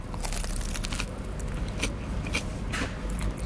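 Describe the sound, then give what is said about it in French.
Crisp crunching as someone bites into a toasted grilled cheese sandwich with golden, buttered bread, followed by several crackly chewing bursts at an uneven rhythm, with no talking. “Je croque.”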